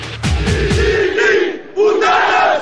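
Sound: protest crowd chanting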